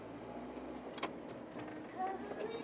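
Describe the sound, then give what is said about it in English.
Steady city street noise on a cold, very foggy day, with the rumble of passing cars, a brief sharp clatter near the middle and a faint high squeal toward the end, with indistinct voices murmuring underneath. “The city now.”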